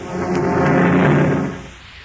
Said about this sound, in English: A heavy rain riding the wings of an early November gale lashes down on the sleeping city.